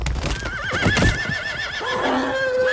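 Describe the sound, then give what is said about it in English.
Horses falling into a trench: a shrill, wavering whinny rises over a burst of heavy hoof thuds and crashing, with a terrible breaking of bone, then more high-pitched neighing cries carry on, loud and unbroken by talk. The gunslingers riding them are flung from their saddles. “The next thing he hears is the horses falling into the trench, a terrible breaking of bone, the astonished yelps of the gunslingers as they're flung from their saddles.”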